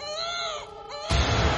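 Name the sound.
child screaming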